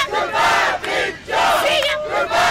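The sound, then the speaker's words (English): A crowd of demonstrators chants together in loud, rhythmic bursts while marching up to the main door of Johns Hopkins hospital, around the circular driveway and back to the street, each shouted phrase separated by brief pauses, the massed sound staying strong and steady throughout. “The demonstrators marched up to the main door of the hospital, around the circular driveway, and back to the street.”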